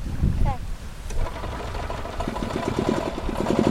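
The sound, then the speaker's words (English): A golf cart engine runs steadily, pulling sailplanes to the starting grid in Vermont, a low chugging hum that grows more pronounced and rhythmic toward the end, with a brief voice heard early on. “Without engines, sailplanes must be pulled to the starting grid by golf carts.”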